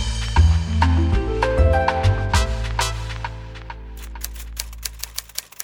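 Typewriter keys clack in quick bursts over a low, sustained musical backing, then a handful of crisp, evenly spaced strikes ring out alone as the music fades.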